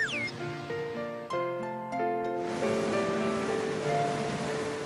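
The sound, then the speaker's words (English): A soft, steady wash of ocean surf heard inside a seashell from the seashore, swelling after a gentle swoosh and sustained musical tones, with no one speaking. “A shell from the seashore.”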